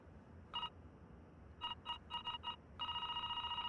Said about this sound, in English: Cut to the outside of the building, and we see the manager ringing the doorbell.